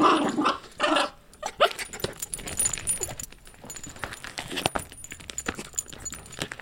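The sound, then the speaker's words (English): A dog in Brooklyn growls in short, throaty bursts amid irregular scratching, rustling and clattering as it attacks a canvas with its paws and mouth, making art. “You know, she's very aggressive and she sort of goes at it and attacks it.”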